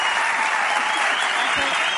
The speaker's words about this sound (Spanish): Un aplauso para Bea.